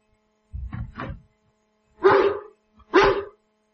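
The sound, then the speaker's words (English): A dog barks four times, two shorter low woofs followed by two louder, sharper barks after a brief pause, with no talking. “Oh, bloody dog's bone. In this house I can't even depart in peace.”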